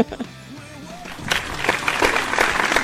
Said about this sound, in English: Thank you all for joining and participating. Big round of applause for you guys. You guys rock.